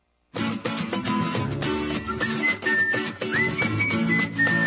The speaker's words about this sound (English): Ah, there's that dog whistle. Actually, that's a human whistle. You can hear it.